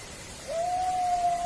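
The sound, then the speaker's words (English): A single drawn-out animal howl, captured by the team of researcher Eric Mintel (Eric Mintel Investigates), rises briefly, then holds a steady, even pitch. It sounds distant and thin, carried over a constant background hiss, with no talking. “Are you hearing this howl? I am hearing this howl. It's coming from over that way.”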